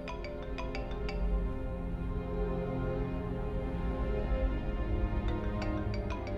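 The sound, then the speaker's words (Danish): Lærke's mobile phone rings with a melodic ringtone, a call from Tim, its bright repeating notes bursting at the start and again near the end over a steady tonal bed. No one speaks. “Men inden Lærke når at komme i seng, ringer hendes telefon.”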